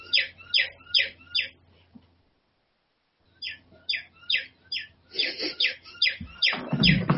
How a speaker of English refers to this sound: Or any birds interrupting you.